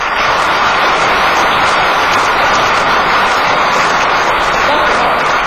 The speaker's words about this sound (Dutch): Bij binnenkomst bent u warm welkom geheten door de Antilliaanse brassband …. Zij zitten vanavond ook in de zaal en ik vraag graag een hartelijk applaus voor hen.